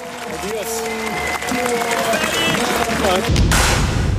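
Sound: farewell applause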